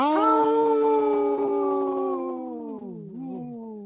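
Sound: wolves howling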